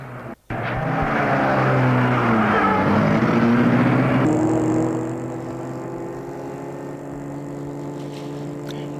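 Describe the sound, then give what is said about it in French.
A car engine revs up after a brief thump and drives through an automatically opened gate into a park, loud and steady at first, then settling into a quieter, even hum as it moves along a small road between two rows of trees. “Il retourne à la voiture et rentre.”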